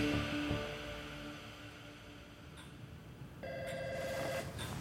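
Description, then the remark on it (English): A telephone, Lee Scott's phone in Bentonville, rings with a trilling, warbling electronic tone that swells louder toward the end. It sounds over a steady bed of humming tones, and no one speaks. “Halfway across the country in Bentonville, Lee Scott's phone rings.”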